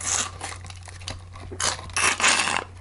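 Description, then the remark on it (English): Crinkling, rustling paper sounds from handling a drinking straw topped with a little paper umbrella in a drink, coming in a few uneven bursts, the loudest near the end, over a low steady hum. “Sorry, I had a straw with like a little umbrella on it that Fred left at my house.”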